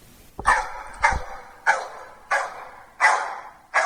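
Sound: two dogs barking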